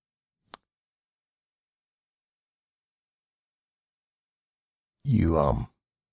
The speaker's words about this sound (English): You hear that behind you. He's breathing.